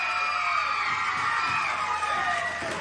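A wrestling arena crowd cheers loudly and steadily as Roddy Piper escapes a pin by Ric Flair, a dense roar of voices with high-pitched shouts and whoops rising out of it, sustained throughout with no pause.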